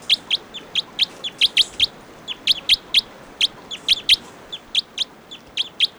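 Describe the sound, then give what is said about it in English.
Bird song made of short, bright, high-pitched chirps repeated in quick bursts and clusters, fairly loud over a low, steady background hiss, with no voices. “According to the type 2 bird here, is going to be bird 714.”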